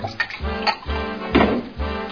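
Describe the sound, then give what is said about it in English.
Whiskey glugs steadily out of a bottle into a glass in a run of gurgling pulses with a faint clink of glass, no voices. “Keep pouring, keep pouring.”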